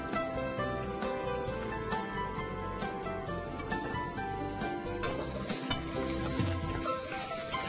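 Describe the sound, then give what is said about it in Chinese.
Mushrooms and vegetables stir-fry in a wok after garlic has been fried until fragrant, a steady loud sizzle with scraping stirs and occasional clanks of the spatula, growing brighter and hissier toward the end; no one speaks. “好，这个大蒜炒香了之后呢，我们这个都可以下去一起炒哈，因为香菇久炒也不会觉得不好吃哈，全部都可以一起下去炒”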